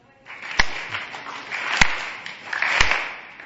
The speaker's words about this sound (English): This Srivast Thakur clapped 3 times in the hands. Please let us do this.